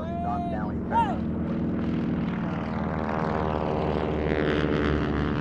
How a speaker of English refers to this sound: Today, these women get to play co-pilots as members of the Condor Squadron at Van Nuys, take four of them up in these old planes they've restored. On the ground, a line of active-duty female pilots salute as the planes pass in formation.